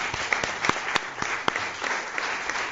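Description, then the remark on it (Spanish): A crowd of people applauding in Villanueva de Córdoba, a dense steady wash of clapping with a few sharper individual claps standing out, sustained throughout. “Vamos a dar un aplauso.”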